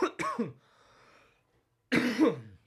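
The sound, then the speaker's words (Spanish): A person with a strong cough of recent days coughs hard twice in quick succession, followed by a raspy wheezing breath, then another strong, harsh cough after a short pause. No speech, just the loud coughing fit. “Y me vas a perdonar que tengo que toser porque si no me estoy ahogando.”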